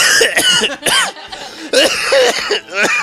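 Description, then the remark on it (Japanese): A person coughs repeatedly to bring up phlegm, a series of harsh, throaty bursts with short pauses between them and no talking. “ちょっとね、急に咳とかするかもしれないんで、皆さんね、まあコロナかもしれないし、インフルエンザかもしれないし、 いや、熱ないです。”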